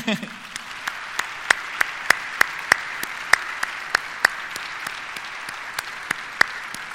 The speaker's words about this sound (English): Most of them, actually, or many of them, are here with us, and I would like to ask them to please stand up now, and we can also applaud now.